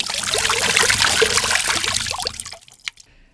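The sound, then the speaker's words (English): A loud rush of water pours in steadily for a couple of seconds, then tapers off into a few trickles and drips before falling quiet. It is the third blast of water, and the water is getting deep. No one speaks. “More water comes in.”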